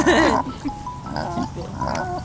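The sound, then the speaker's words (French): A voice imitates a pig's grunting: a loud, gurgling snort up front, then a few rougher, throaty grunts at an uneven pace. “Deuxième qui arrive, donc un cochon jaloux qui arrive.”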